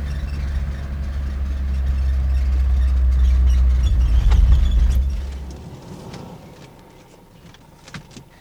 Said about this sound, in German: Fahr mal rechts auf dem Parkplatz da. Ja, schon dabei.